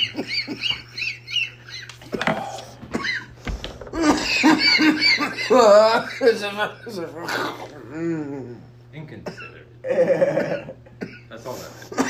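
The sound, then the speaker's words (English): Harsh coughing in repeated bursts, mixed with raspy, strained throat sounds and wheezy vocal noises, with brief pauses between the fits over a low steady hum, from a person who has just smoked weed from a bong. “Don't cough into it, bud.”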